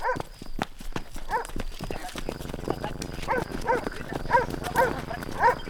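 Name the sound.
dog barking aggressively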